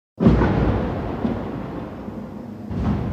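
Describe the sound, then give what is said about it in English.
A sudden heavy blast opens into a long, low rolling rumble that slowly fades, then a second boom swells up near the end: explosions at night in Gaza City, where Israeli tanks fire at homes and buildings as Israeli soldiers advance. No voices are heard. “And just a heads up, you're going to hear the sound of explosions in this story.”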